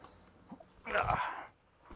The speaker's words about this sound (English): But she does want to chew on a spatula loudly off camera.